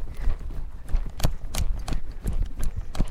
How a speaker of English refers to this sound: Canter! Oh no. Oh, he's pulling like a train when I make him canter. Slow down.